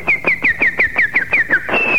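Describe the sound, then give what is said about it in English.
A person imitates a bird call over a telephone line, whistling about eight quick, evenly spaced downward chirps, then finishing on one long, steady whistled note. No one talks. “Bird call. A bird call. Okay, go ahead, do your bird call.”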